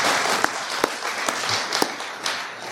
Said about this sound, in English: Oh, are you going to clap or not? Come on. Do it.